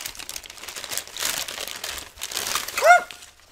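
Paper crinkles and rustles steadily as a letter is torn open, a dry crackling texture in uneven bursts, ending with a brief high-pitched squeak.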